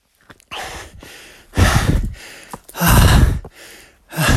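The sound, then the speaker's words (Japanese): Heavy, labored breathing with loud rhythmic breaths and gasps in repeated bursts, as someone pants hard while hiking uphill on a short mountain trail course starting at Takijiri. No talking. “これ、はぁはぁしか聞こえてない。”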